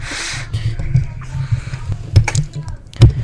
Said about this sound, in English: We're in bidirectional. I'll show you how bassy my keyboard is.